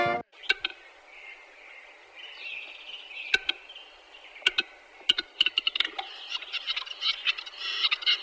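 A real bird calls, a steady run of gurgling, chattering notes broken by sharp clicking pops that grow busier and denser toward the end. No voices are heard.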